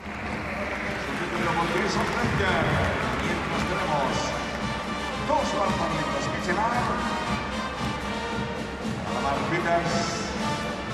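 A noisy basketball-game crowd keeps up a steady roar of chatter and cheering, with bursts of applause and a brass band playing through the din for the whole stretch.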